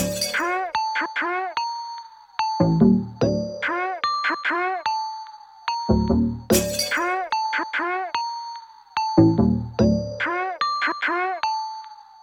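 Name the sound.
doorbell ringing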